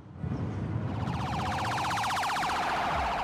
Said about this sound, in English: An ambulance hurtles along an empty street.